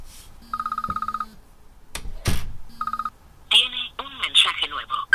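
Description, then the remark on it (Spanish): A telephone rings unanswered twice with a rapid electronic trill, each burst under a second long, separated by a short pause and a thump. Then someone starts talking as the ringing stops. “No coges el teléfono y me tienes preocupada.”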